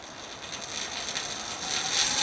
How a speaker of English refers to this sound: the impulse response that I'm going to use to convolve my rain signature with is the window. So this is sitting inside on the same windy, rainy day. Okay. Here's the glass window.